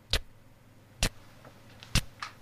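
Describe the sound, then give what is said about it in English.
A voice imitates a ticking clock with sharp mouth clicks, three loud ticks evenly spaced about a second apart, with a few fainter clicks between them, against a quiet background. “Why am I hearing a ticking noise?”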